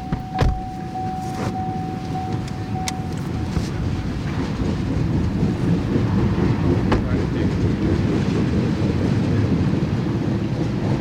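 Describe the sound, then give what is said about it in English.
A long BNSF freight oil train, with an orange engine emerging from a tunnel followed by black pill-shaped oil cars, rumbles past on the tracks north of Seattle at night in the rain with a steady low roar, occasional clanks and squeals from the cars, and a brief horn-like tone near the start. “The orange BNSF engine emerges from the tunnel, and then the black, pill-shaped oil cars, one after another.”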